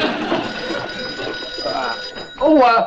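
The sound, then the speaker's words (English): A telephone rings continuously with a steady, shrill electronic tone amid background voices and bustle, and a person starts talking loudly near the end. “Major Nelson, your phone.”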